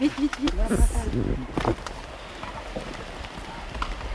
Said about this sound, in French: Là, la pluie, elle arrive. Là, il va falloir qu'on se protège, on l'entend. Elle arrive, là. Oui, oui, on l'entend. Elle arrive, elle va se protéger là. On descend. Il vaut mieux qu'on descende, elle est très très forte.